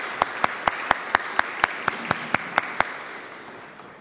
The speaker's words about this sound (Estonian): Tõuski korraks püsti. Plaksutame teile ka.